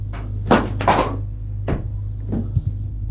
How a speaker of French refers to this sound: Ouvre le buffet. En prend 2 verres.